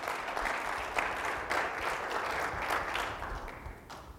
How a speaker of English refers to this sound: Give the Lord a good clap offering right there.